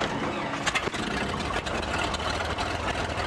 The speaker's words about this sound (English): Everybody, that plane sounded just as rickety as it looked. And it was so loud inside there.